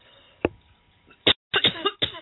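coughing fit

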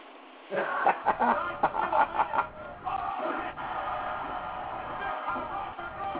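duck quacking sound effect

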